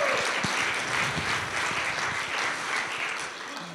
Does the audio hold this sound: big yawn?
no